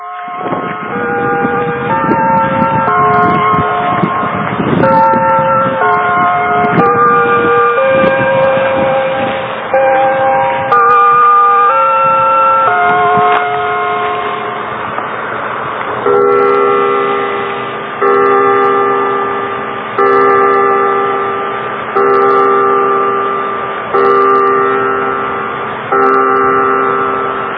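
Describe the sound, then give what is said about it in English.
A peal of bells rings continuously at Mountain Cemetery on July 8, 1998, tones stepping up and down in overlapping sequences, then settling into slower, evenly spaced strikes that each ring out and fade. No one speaks. “As the bells finish tolling in the background on July 8, 1998, 2 days after the gathering, I'm sitting down alone in reflection at Mountain Cemetery.”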